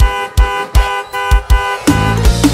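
A car horn honks in a long, steady blare in front of a gate over a thumping beat that hits roughly twice per second, with the tone shifting toward the end; loud, no talking.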